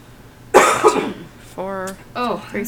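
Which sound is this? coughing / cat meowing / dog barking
coughing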